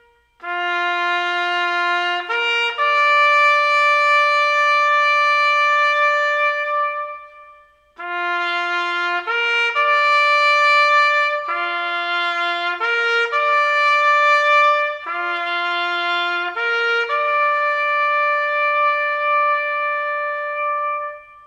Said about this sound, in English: And so, and then we'd all head back to the division, and then, you know, at the appropriate time, we'd sound taps.